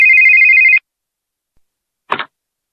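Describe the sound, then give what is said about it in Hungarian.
A telephone rings once at 9:30, a loud, steady electronic trill lasting under a second, then silence broken by a short, soft clatter like a receiver being picked up. No voices. “Amikor elment, leültem a telefon mellé, és türelmetlenül vártam, aztán 9:30 végre megcsörrent.”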